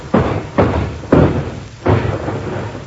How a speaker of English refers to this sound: Good heavens, what's that? I think she fell down the cellar steps.